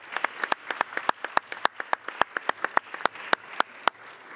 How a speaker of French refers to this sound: Mais peut-être avant de le faire, je voudrais qu'on s'applaudisse tous pour tout le travail que nous avons accompli.